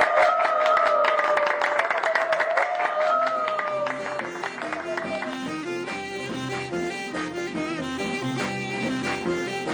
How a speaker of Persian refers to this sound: عزیزانی که اینجا هستی خودتون و همه شنوندهای شبای ایران رو تشویق کنید.